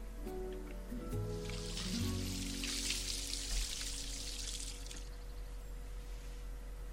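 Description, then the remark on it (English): Water sprinkles from a watering can onto a sunflower in a steady, hissing splash for about four seconds, then fades out, with soft tonal music playing underneath and no one speaking. “Here's a drop of water for you, my little sunflower.”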